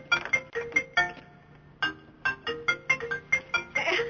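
Someone's phone rings as background noise, a repeating electronic melody of bright, pulsing tones in quick bursts, a pause midway, then more bursts, moderately loud and with no talking over it.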